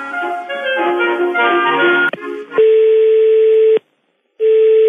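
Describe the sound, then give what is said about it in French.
A telephone line plays tones during a call to the prefecture in Nice, France: a muffled burst of hold music, then a steady electronic beep that cuts off, pauses, and returns. Loud, with no one talking. “Téléphone.”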